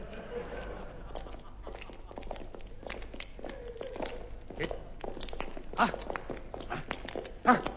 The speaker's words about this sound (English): I hear legs approaching.